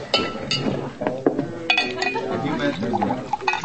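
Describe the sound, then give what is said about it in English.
Glass clinks sharply several times as a glass of rye whiskey is poured, with a faint liquid trickle between the bright taps and a low murmur of voices in the background. “What'll it be? Oh, glass of rye?”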